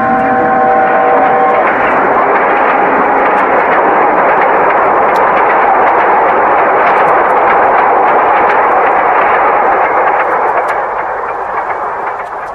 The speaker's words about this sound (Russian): Когда поезд пронесся, а снежная пыль еще вертелась в воздухе и садилась на землю